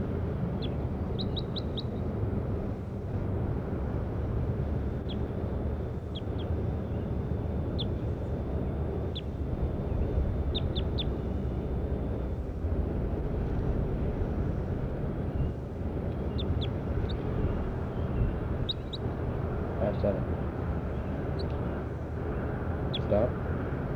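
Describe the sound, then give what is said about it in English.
Short, high-pitched chirps from bird 5-7 come in scattered clusters of quick repeated notes, set against a steady low rumbling background that stays constant throughout. “Start recording, bird 5-7.”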